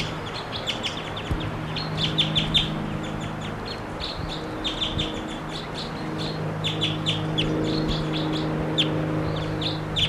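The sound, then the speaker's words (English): A wild bird calls repeatedly in quick, high-pitched chirping bursts, layered over a steady low hum and faint background noise, with no one speaking. “Wild bird. I don't see the bird.”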